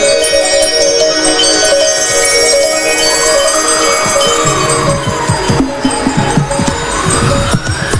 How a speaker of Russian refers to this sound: Еду, еду в чистом поле, колокольчик дин-дин-дин, страшно, страшно поневоле средь неведомых равнин.